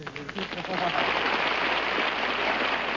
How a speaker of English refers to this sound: Oh, please, stop. Oh, please. Oh, thank you. Please, no applause, no applause. With all that applause that sets up a big wind, I'll catch a cold and wind up sounding like Tallulah Bankhead.